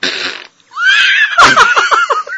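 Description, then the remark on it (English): A voice mimics farting into a microphone: a brief breathy hiss, then a loud buzzing, wavering raspberry that breaks into a quick run of sputtering pulses. “it would have these weird like scenes where it sounded like somebody was like farting into the microphone.”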